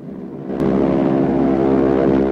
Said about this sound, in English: A fleet of Japanese planes is in the sky.